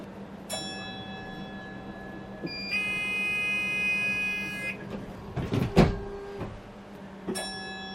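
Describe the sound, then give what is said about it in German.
A self-driving car's acoustic warning signal, sounded after its door closes and before it departs automatically, to alert pedestrians in front: a short tonal beep, then a steady, buzzy two-second tone, a clunk and mechanical rumble, and another brief beep over a low engine hum. “Es gibt vorher noch ein akustisches Signal, dass auch alle informiert sind, die vor dem Auto spazieren gehen, und dass es hier zu keinen Verwirrungen kommt.”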